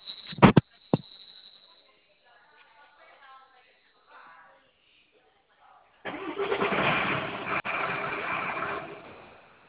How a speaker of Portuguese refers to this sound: Eu vou manobrar um caminhão aqui.